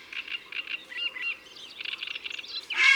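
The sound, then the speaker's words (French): At the edge of a pond at dawn on 16 May, a grey heron flying over the pond and slowly beating its wings gives a single loud, harsh trumpet-like call near the end, cutting through a steady background of busy chirping and warbling birds, including a turtle dove, nightingales, reed warblers and a wood pigeon. “Et voilà son cri, comme une trompette.”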